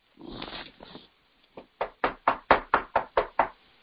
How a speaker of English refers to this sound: It says, "Here I am. I stand at the door and I knock." Can you hear?